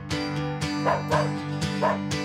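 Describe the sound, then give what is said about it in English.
A dog barks and yips playfully in a quick, steady series of about five sharp barks spaced roughly half a second apart, with a low steady hum underneath. “We love the sound of play.”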